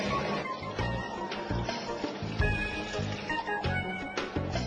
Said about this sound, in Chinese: 咁我哋而家就量度下接近水龙头嘅流量啦。预备，3、2、1，开始。